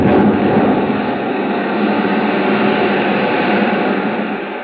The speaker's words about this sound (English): What was that? An explosion, sir. Underneath us. The whole thing's going up.